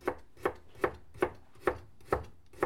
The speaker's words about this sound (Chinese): 你切菜慢点儿，别受伤了。